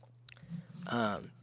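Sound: drinking water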